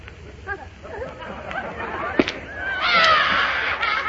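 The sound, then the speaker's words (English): A single sharp pop of a balloon, blown up bigger at a child's request, bursting and cutting through a busy mix of voices and high chattering sounds that grow louder and denser afterward. “It burst. Well, stop crying. I'll buy you another balloon.”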